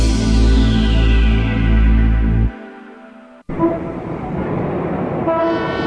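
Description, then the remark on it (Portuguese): Car horns honk loudly in traffic at a street corner by a hospital: a long, blaring sustained blast, a brief pause, then more honking over a rumble of street noise. “Nossa, tá impossível esse trânsito, que falta de respeito. É um absurdo buzinar desse jeito.”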